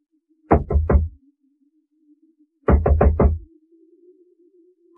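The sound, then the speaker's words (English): Someone knocks late one evening in May on the door of the London lodgings of the Emperor's ambassador, Don Inigo de Mendoza, in two firm bursts: three quick heavy raps, a pause, then four more. A faint, steady low hum sits underneath, and no one speaks. “Who knocks? Who's there?”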